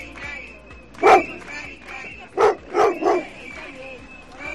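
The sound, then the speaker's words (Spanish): A dog barks in short bursts, one bark followed by a quick run of three, loud over a steady murmur of crowd noise and voices outdoors, at a protest by over a hundred people and some dogs in front of the Government Delegation in Galicia against a decree limiting vets' prescription of antibiotics. “Más de un centenar de personas y algún que otro perro han vuelto a protestar frente a la delegación del Gobierno de Galicia contra el decreto que les limita la prescripción de antibióticos a los veterinarios.”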